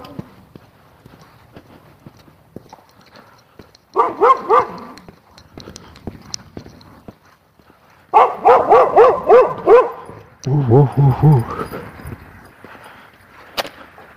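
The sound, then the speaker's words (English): A red dog on the other side of a fence barks in two bursts: a short flurry of yelps, a pause, then a longer run of rapid, insistent barks and howling yips, moderately loud and slightly muffled. “A red dog on the other side of the fence.”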